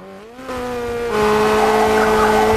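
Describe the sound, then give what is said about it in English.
A motorbike engine revs hard with a screeching back-wheel spin, then the pitch climbs steadily as it roars off, loud throughout, with no one speaking. “Someone's spinning a back wheel, then speeding off on a motorbike.”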